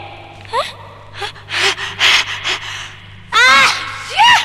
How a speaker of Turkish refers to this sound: Hay Allah, bu hapşırıkta nereden çıktık ona bakınca? Olmaz olsun, bu hapşırık dünyamı yıktı.